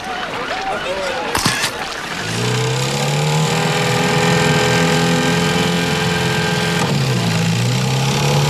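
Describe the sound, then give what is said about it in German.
A boat motor catches after a sharp start-up clatter, then settles into a loud, steady droning hum that shifts pitch briefly near the end. Faint voices are heard before it starts. “ja, wirf den Motor an.”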